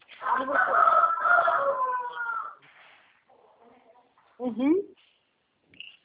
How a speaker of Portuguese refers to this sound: já pegou o frango na mão dele.